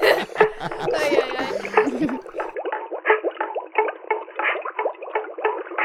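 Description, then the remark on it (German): Rapid, uneven bubbling and gurgling as a person blows bubbles, like air being blown into water, continuing for several seconds. The start is fuller and brighter, then it becomes a thinner, choppy burble. “Ich muss, glaube ich, noch ein bisschen lauter blubbern.”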